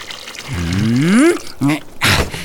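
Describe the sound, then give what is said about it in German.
Water is poured steadily from a bucket into a large pot standing on the cooking stove, its hollow gurgling tone rising in pitch as the pot fills, followed by a short splashing slosh. “Als erstes gieße ich das Wasser in den großen Topf, der da auf der Kochstelle steht.”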